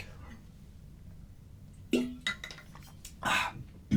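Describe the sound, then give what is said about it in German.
Someone takes a sip of water from a glass: after a quiet, humming pause comes a soft glassy clink, then a few brief slurping and swallowing noises and a breathy exhale, with no talking. “Ich trink mal kurz einen Schluck Wasser.”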